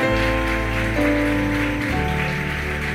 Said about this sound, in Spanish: Se anima a levantar un aplauso al nombre de Jesús esta mañana.